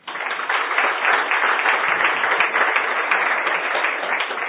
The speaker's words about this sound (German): Applaus.